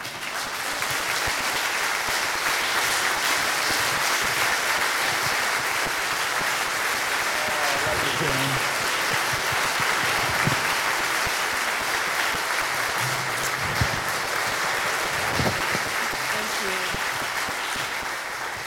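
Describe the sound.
Sustained applause from an audience at a church service, a dense steady wash of clapping that holds at an even loudness for the whole stretch, with a few faint voices showing through underneath.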